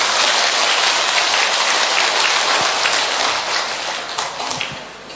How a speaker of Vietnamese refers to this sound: Anh chị em chúng ta một tràng pháo tay để chúng ta tạ ơn Chúa.